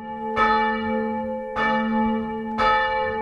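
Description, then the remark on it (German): Church bells of the Christophorus church in Egeln ring out in three full, resonant strikes about a second apart, each leaving a long humming tone that lingers and overlaps the next, with no voices. “Glockengeläut von der Christophoruskirche in Egeln, also als ein Hoffnungszeichen in der Corona-Krise, zumindest ein Signal, um mal kurz innezuhalten, um den zurzeit so ganz anderen Alltag für einen Augenblick zu unterbrechen oder für ein Gebet.”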